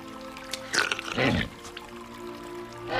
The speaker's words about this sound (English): reaches into the crevice and lifts water out in her cupped hands. She drinks it.